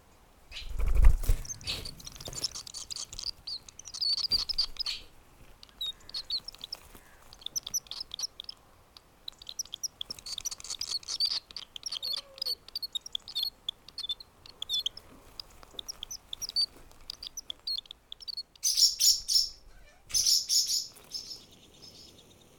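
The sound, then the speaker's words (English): Small birds chirp and call busily throughout, with rapid high tweets overlapping in bursts that grow livelier toward the end; a brief low thud sounds near the start, and no one speaks. “But the echoes of our collective memory as a family will be forever linked to these adventurous small birds.”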